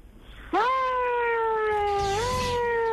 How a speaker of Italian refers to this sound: Collega, chiedo scusa, metti, se vuoi passare, che è tuo diritto, metti la sirena. Fai sentire la sirena.